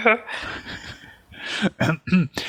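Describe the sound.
An odd-sounding cough breaks out in several short, throaty bursts with voiced, raspy edges, coming in quick succession near the end after a breathy, murmuring start.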